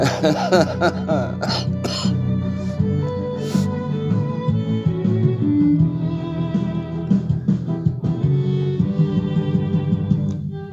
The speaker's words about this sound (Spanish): La tos es solamente de la medianoche.